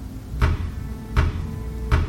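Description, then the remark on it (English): Three slow, evenly spaced knocks on an apartment door at night, each a solid wooden thud with a deep low body, clear over a faint steady background hum. “There is someone at the door.”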